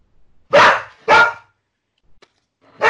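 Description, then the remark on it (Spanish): A dog, an adopted female named Lolita, barks three times, loud: two quick barks in a row, a short pause, then a third. No voices are heard. “¿de quién es el perro? ¿Tuyo, Molly? Que no para.”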